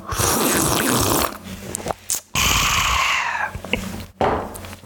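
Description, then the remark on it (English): Loud, noisy slurping of hot coffee, drawn out over a couple of long sips with brief pauses and a final shorter sip, no talking. “I'm going to have a sip of my coffee because I hear them do this on the radio.”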